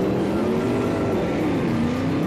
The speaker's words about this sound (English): While you're waiting for an answer, while you're waiting to hear if that thing's stolen or not, they see you back there, and they panic, and they hit the gas!